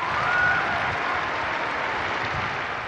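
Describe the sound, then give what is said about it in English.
A large outdoor crowd in St. Peter's Square at Easter Mass cheers and claps as Pope Francis emerges on the balcony, in a dense, steady roar that holds at an even loudness throughout, with a brief high whistle rising out of it near the start. “As the midday bells tolled, the balcony curtains on St. Peter's opened and the Pope emerged to greet the crowds.”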